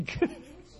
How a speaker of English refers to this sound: Sorry. Bless you, brother. Bless you, brother. No, it sounded like a dog barked. I think, oh, God, we're going to have some Toronto going on here, man. Anyway, it was a good sneeze, brother.